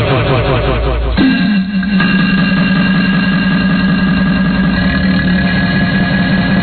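Highway rest stop ambience on 995, dominated by a loud mechanical whine that sweeps briefly in pitch, then settles into a steady droning hum for several seconds, with no talking.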